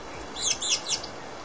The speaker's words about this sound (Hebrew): מה זה? ציפורים. מסייצות.